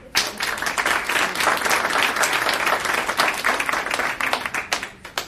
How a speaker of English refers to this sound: I was hoping we weren't going to do a lot of clapping, even though I know you all agree.